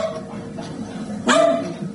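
A dog gives a single sharp, loud bark about two-thirds of the way through, against a quiet background with a faint hum and a softer yelp-like sound earlier.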